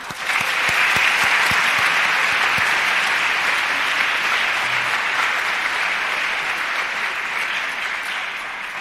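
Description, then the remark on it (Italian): Sustained applause from a sizable audience for the Pope, steady and fairly loud throughout, a dense wash of clapping that holds for several seconds and eases only slightly toward the end. “È l'inno più bello nel mondo moderno da parte del Papa, a cui diamo un bel applauso.”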